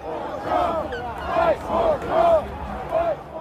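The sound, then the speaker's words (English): A large crowd shouts and roars together at a political rally near the White House, loud, with individual voices rising in repeated bursts above the dense, continuous clamor. “And what I found was a series of videos he posted of himself at the rally near the White House, standing amid a crowd as yellow Don't Tread on Me flags waved overhead.”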